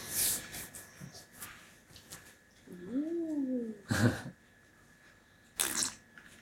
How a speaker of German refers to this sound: Schlürf, Schmatz.